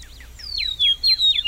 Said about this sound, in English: Let's listen again as the meadowlark sings. It's a little dim. Here we go. There's the call note.